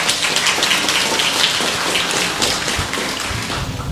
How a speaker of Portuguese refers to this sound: A Jesus, que é o tudo de nossa vida, uma grande salva de palmas.